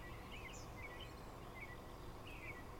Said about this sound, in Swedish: Men du har solen i ansiktet, du hör fåglarna kvittra.